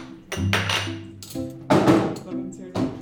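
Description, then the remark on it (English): Espresso being made behind the counter of a cafe at the Circolo Pontito, the village's town meeting place: a steady low machine hum with clinking cups and several sharp knocks and clatters, some loud bursts at irregular intervals. “He turned the lights on, and then he got behind the counter and made us espresso.”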